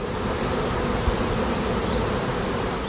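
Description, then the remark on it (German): A dense, steady buzzing of many bees at beehives, a continuous droning hum that fills the whole moment without pause, with no voices over it. “Brausen an Bienenstöcken.”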